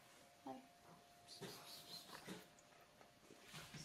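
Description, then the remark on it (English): A large dog whimpers in a few short, whiny bursts spread over several seconds, fairly quiet, with soft breathy noise between the cries. “Dog. Big.”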